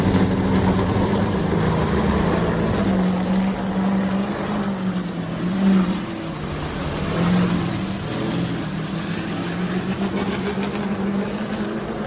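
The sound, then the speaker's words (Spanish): The engine of Jimmy Johnson's NASCAR Chevrolet, driven by Fernando Alonso on his first day out of Formula 1, drones steadily and loudly for the whole stretch. It is a rough, throbbing low roar with a humming tone that swells briefly midway. No voices are heard. “Después de recibir el homenaje en Abu Dhabi, el primer lunes fuera de la Fórmula 1 del campeón español, ha empezado en Bahrein conduciendo un Chevrolet.”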